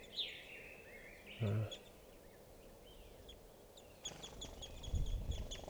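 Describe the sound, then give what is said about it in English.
Crossbills chirp in a small tree in a park as they come down for water, with high, thin calls and short whistled notes at first, then a busier run of quick repeated chirps toward the end over faint background rumble. “And I'm right next to some birds now, and they're in a small tree.”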